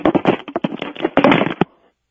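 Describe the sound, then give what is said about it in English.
Frying pans with chicken wire clatter in a loud, rapid jumble of metallic bangs and rattles for under two seconds, then quickly ring out to silence. “Two frying pans with chicken wire.”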